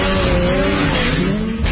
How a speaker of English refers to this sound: then you know the pure feeling that comes with it. The unparalleled power of a Rotax engine. The agility and ultimate freedom only the revolutionary Rev Gen 4 platform can give.